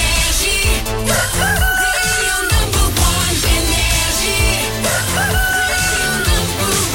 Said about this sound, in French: Bienvenue sur Énergie, il est 6h, qu'on amène le coq et qu'on démarre cette journée.